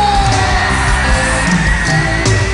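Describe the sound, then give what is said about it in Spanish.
A large audience shouts, cheers and applauds loudly and continuously after a song, a dense wash of voices with occasional louder whoops and yells standing out, energetic throughout. “Muchísimas gracias por esos aplausos. Muchísimas gracias por esos gritos.”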